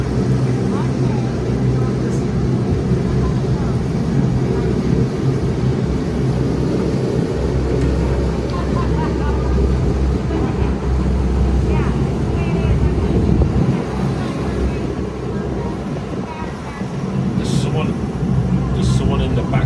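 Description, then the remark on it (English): The engine of a boat at the Wilderness Lodge boat launch runs steadily throughout on a windy day, a loud, low rumbling drone mixed with wind buffeting and faint background voices, with a few brief high squeaks near the end. “Wilderness Lodge boat launch.”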